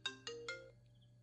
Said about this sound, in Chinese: 亲爱的，手机响了，帮你接吗？